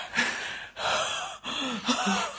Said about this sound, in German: Und grinst nicht so, man hört dich atmen.